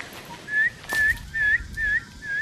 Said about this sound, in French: Les plus petits ont sifflé très pour donner l'avertissement aux autres. Attention, il y a la présence humaine et puis tout le monde se cache.